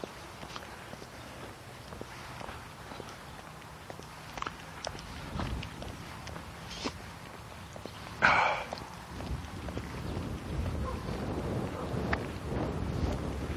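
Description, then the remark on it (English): Wind blows steadily in a low, rumbling rush, with scattered soft thumps and one brief, louder burst partway through. Nobody speaks. “Yeah, that wind is just, it's going to be a breezy day.”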